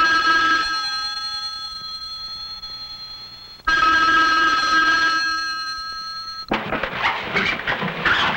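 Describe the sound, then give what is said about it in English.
An old-style telephone bell rings twice, each loud metallic ring trailing off before the next, followed by a brief clattering rustle as the ringing stops. No one speaks. “Little did I know that in a few minutes, a phone call would begin the hottest and most dangerous case of my career.”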